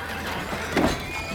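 A horse whinnies in one short, strained neigh that swells to a peak midway, then trails off, with no voices.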